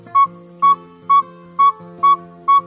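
A saw-whet owl's advertising call after dark: six evenly spaced, clear whistled toots on one steady mid-high pitch, about two per second, sounding monotonous and repetitive over a faint low background hum.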